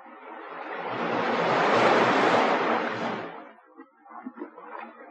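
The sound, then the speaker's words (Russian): A single wave swells and crashes on the shore, a broad roaring wash that peaks and then fades into softer, scattered splashes of receding water. “Вот оно море. Я вижу его через окошко своего ящика.”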